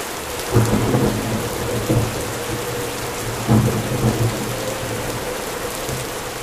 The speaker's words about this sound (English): the wind and the rain weren't enough to keep her from falling into slumber as the storm continued to rage outside.